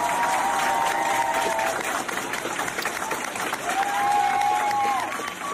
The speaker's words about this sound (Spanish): Compañeros y profes del colegio St. Helen, a ambos lados del pasillo, aplaudiendo a este héroe. Claro, te iba flipando, imagínate, qué gesto tan bonito.